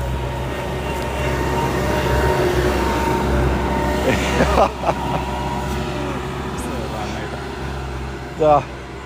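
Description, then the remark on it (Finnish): A tractor's heavy engine drones steadily with a low rumble and faint mechanical clatter as it hauls sand, broken by a couple of brief knocks and a short metallic squeal near the end. “Nyt se traktori tulee tänne.”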